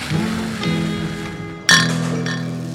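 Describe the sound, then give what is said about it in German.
Beer glasses clink together in a toast in a small beer cellar: a few light taps early on, then one bright, loud clink near the end with a ringing glassy tail. No one speaks. “Hey, moin moin und Prost aus unserem kleinen Bierkeller.”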